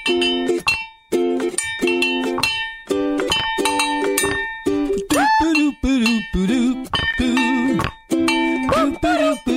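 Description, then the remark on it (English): A small frog-shaped bell instrument rings out in a quick, steady run of bright metallic strikes, each clink sustaining a clear tone before the next, continuing for several seconds at a lively, loud level. “More frog bell.”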